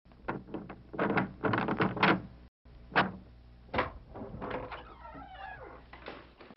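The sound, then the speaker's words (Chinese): A house door being opened for a visitor: a quick series of clattering knocks and latch rattles, a brief pause, then more thuds and a thin, wavering creak as it swings. No one speaks. “是的，在家。我来开门。”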